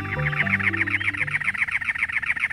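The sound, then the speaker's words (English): A cactus wren perched atop a many-lobed cactus in the hot Arizona desert in late April sings a loud, harsh, rapid series of repeated chugging notes that runs steadily for the whole stretch. A low hum sits underneath at the start. “A cactus wren sings, perched atop a many-lobed cactus.”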